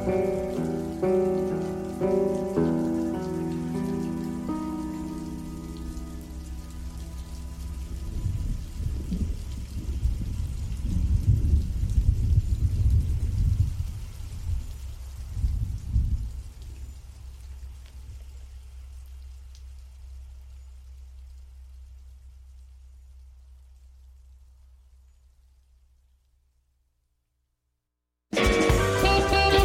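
Steady rain pours down with a deep, rolling rumble underneath and faint tonal notes early on, slowly fading to silence before a sudden loud burst of noise at the very end.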